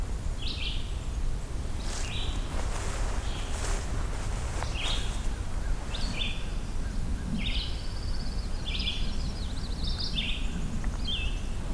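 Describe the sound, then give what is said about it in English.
A pine warbler sings several short, musical trills, repeating every second or two over a steady outdoor background of low rustling. “And there's that pine warbler again.”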